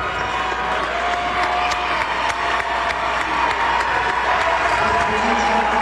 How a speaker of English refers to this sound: And Shelby Davenport goes out to applause.